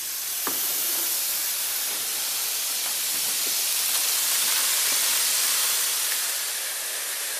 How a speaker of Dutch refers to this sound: En dan krijg je een beetje een soort van een rivier van knikkers.